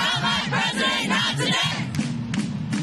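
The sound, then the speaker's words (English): A large crowd of street protesters in the U.S. on a Wednesday night, protesting Donald Trump's election victory, chants and shouts together in a dense, continuous roar of voices, with rhythmic rises in the chanting and scattered sharper yells near the end. “Thousands of protesters took to the streets in cities across the U.S. Wednesday night to protest Donald Trump's victory in the election.”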